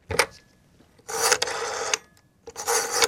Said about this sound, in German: Dort mal, wo das Telefon an der Wand gehangen ist. Oder irgendwo ein grosses Telefon auf dem Pult. Und es hat so getönt.